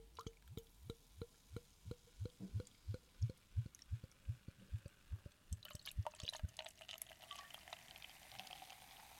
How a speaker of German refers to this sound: Aber erstmal. Erstmal einschenken. Rinn ins Glas. Drinne nach dem Glas drin.